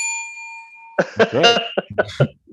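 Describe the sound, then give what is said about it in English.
A single bright bell strike, rung as a penalty each time someone curses, rings out clearly and hangs with a ringing, slowly fading tone for about a second, then voices break in with bursts of chatter and laughter. “Just that bell,”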